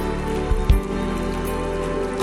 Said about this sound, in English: Come on, if you believe it, give God a big hand clap right now.